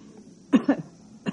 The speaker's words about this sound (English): I would like to hear you cough.